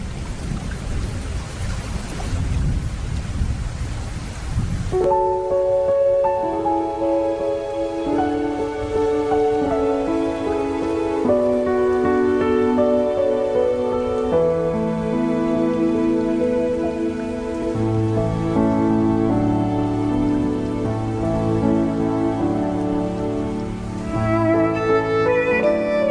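Steady, hissing rain with a low rumble of thunder fills the first few seconds, then soft instrumental music takes over and plays on alone without any voices.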